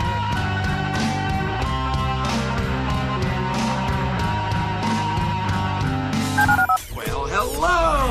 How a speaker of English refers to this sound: Dial the phone.